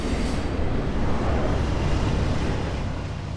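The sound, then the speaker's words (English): A Union Pacific coal freight train rolls past Kansas City's Union Station, a steady, heavy rumble with broad roaring noise that holds at a constant loud level throughout, with no voices. “This is it's a Union Pacific train. It is a coal train.”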